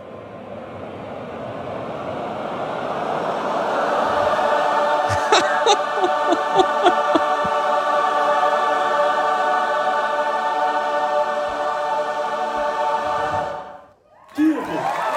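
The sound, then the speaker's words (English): A large audience sings together, a smeared, wavering cluster of pitches as each singer glides from a chaotic note to their own note in D major, settling into one loud, steady sustained chord, held for several seconds before breaking off abruptly. “you have to glide your note from that note that you just sang, the chaotic note, to the first note that you sang”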